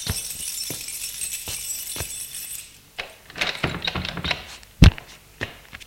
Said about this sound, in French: Louis ouvre la porte de son appartement.